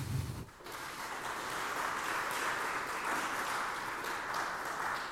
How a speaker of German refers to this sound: Erstmal gibt es einen Applaus.